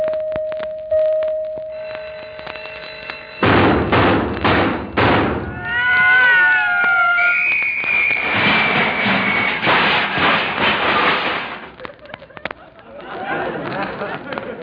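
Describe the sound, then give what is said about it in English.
An alarm clock goes off with a steady electronic tone, then a run of heavy thumps, warbling whistle-like tones and a long high beep, ending in rattling, clattering bursts. “I'm a little disappointed with that alarm clock you gave me last Christmas.”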